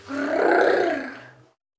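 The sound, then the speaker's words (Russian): A wolf growls once, a deep, rough snarl lasting over a second that swells loudly and then cuts off into silence. “Волк побежал к дому и зарычал.”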